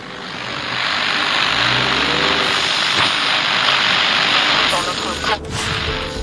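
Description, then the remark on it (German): A car engine idles with a steady rumble and broad hiss throughout while two people sit silently inside, then a brief click-like break near the end as a radio is switched on. “So sitzen sie im Wagen und schweigen. Patrick schaltet das Radio ein.”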